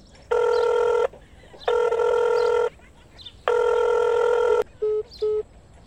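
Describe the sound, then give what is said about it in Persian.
A phone ringback tone sounds three times in long, steady electronic bursts with pauses between, followed by two short beeps as a call to a man's mobile phone ends unanswered. The tone is clear, with no talking. “این مردکه موبایل خود جواب نمیده.”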